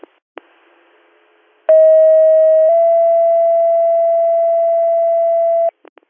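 A radio dispatch page calling for an ambulance driver for the Addison ambulance: a loud, steady tone lasts about a second, then shifts to a slightly lower pitch held for several seconds, with brief clicks of the radio keying before and after.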